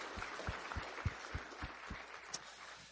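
Quiet, steady applause from an audience: a dense wash of clapping with a soft, regular low thump running underneath, and no voices.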